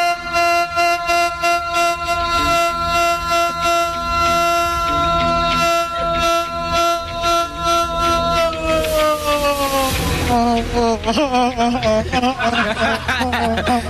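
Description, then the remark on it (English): A voice drenched in an echo machine effect on a radio show in Ilkeston, Derbyshire, stretched into a long, buzzing, horn-like drone that holds steady, then bends and wobbles in pitch near the end, loud throughout. “The echo machine works, don't I?”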